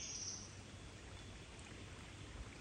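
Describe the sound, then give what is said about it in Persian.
A side river running parallel to the main river flows with a steady, even rushing wash, soft and continuous throughout, with no voices and no distinct events breaking the flow. “یه رودخونه هم اینجاست، موازی رودخونه اصلی.”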